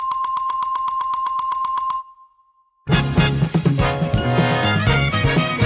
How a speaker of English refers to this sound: And for the correct answers, Ed went to a hardware store and tested a bunch of different doorbells before recording the perfect option.